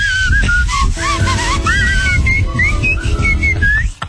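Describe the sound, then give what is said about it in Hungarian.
Someone whistles a lively, wandering tune, the notes gliding up and down without pause for about four seconds over a steady low rumble of background noise. “Tudjuk utánozni? Persze. Én nem tudok fütyülni, te jós.”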